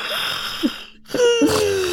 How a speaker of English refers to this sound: I yawned really big. I'm just tired in general.